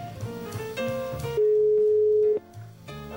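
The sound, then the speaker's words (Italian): A telephone ringback tone as a call is placed, a single steady pure sine tone, rings out loudly for about a second, rising out of background music that returns once the tone stops. “Squilla.”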